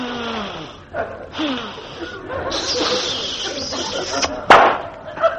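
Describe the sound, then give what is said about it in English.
A man on his hands and knees sniffs loudly and repeatedly along the floor, imitating a bloodhound with a run of breathy, hissing snuffles and a sharp snort near the end. “I'll get down on my hands and knees and sniff along the floor like a bloodhound.”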